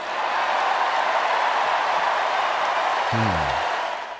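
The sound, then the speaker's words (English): A crowd gives rousing applause during a speech that asks Donald Trump whether he has read the United States Constitution, a dense, unbroken wash of applause holding for several seconds, with a brief voice cutting through near the end before it starts to fade. “Rousing applause, and then he went on to offer his own pocket-sized constitution to Donald Trump.”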